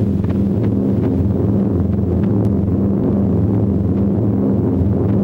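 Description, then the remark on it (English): A steady, heavy drone of multiple piston aircraft engines fills the air, a low throbbing rumble that holds constant throughout as a squadron of Fortress bombers passes high overhead, with no voices. “High above them, a squadron of bombers flies by. Fortresses.”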